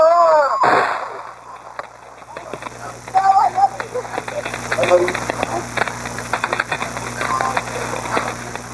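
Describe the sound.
A rapid, irregular series of sharp gunshot cracks comes through a muffled phone line on a recorded emergency call to a sheriff's dispatcher, following a brief electronic tone, with faint voices and background noise underneath.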